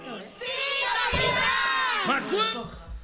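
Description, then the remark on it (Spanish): A loud chorus of children shouting together in unison, like the rousing call at the start of a cartoon theme song, with sustained, excited voices lasting a few seconds. “Pues creo que el mejor cierre es esta canción y a ver quién de los cuatro participantes adivina de qué serie es.”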